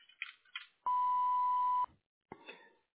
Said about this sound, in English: Hello, the party you're trying to reach is currently unavailable. Please leave a message after the beep.